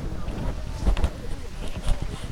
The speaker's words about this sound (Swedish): Det blåser.